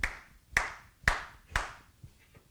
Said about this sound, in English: It's not a mere suggestion. It's saying, I need to hear your hands clap.